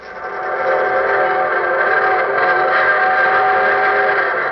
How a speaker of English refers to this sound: There's the evening train whistling for Hunter's Bottom.